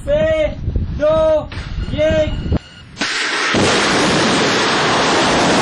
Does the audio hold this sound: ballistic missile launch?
yes